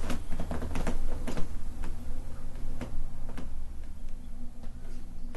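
A new brown leather two-seater couch creaks and ticks irregularly as someone sits and shifts their weight on it, a string of short dry crackles over a low steady hum, with no voices.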